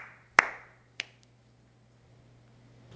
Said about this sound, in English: I'm applauding.